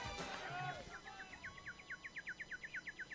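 A rapid, evenly spaced run of high bird tweets, a dozen or more quick chirps in a row, following a brief busy burst of sound at the start.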